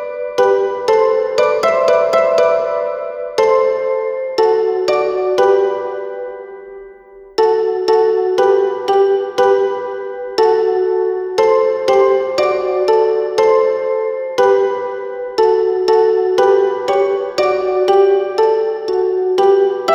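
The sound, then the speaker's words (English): A glockenspiel plays a lively melody of bright, bell-like struck notes, each ringing briefly before the next, with a short pause partway through. It plays alone, with no voices. “There's a very fancy instrument called a Glockenspiel.”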